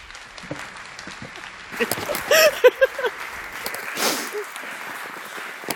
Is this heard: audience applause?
yes